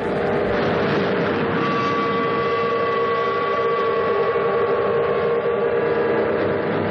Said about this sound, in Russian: Ровно в 12:00 салют, а по всей стране загудят паровозы и теплоходы.